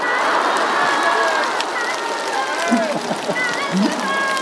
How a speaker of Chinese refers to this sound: 让我们以热烈的掌声感谢卢台长简短的开示。